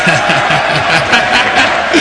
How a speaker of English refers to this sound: Oh, excellent. I've never heard such a rowdy crowd in Congress. I like it.